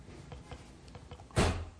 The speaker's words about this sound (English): why don't you close that door too so we don't get too much traffic noise unless it gets hot in here